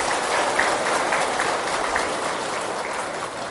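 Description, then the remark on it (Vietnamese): An audience claps loudly and steadily as a pledge of commitment to practise four gratitudes, a dense wash of applause sustained at an even level for a few seconds with no voices rising above it. “Do đó để phát triển được tình người, mỗi người hãy thực tập bốn trọng ân vừa nêu, với một tràng vỗ tay thật lớn để cam kết.”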